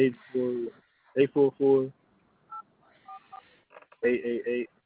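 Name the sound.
telephone keypad dialing tones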